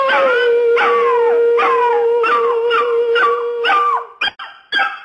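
A dachshund named Jesus howls loudly in long, wavering, sing-song tones for about four seconds, then breaks into a few short, sharp yips at the end.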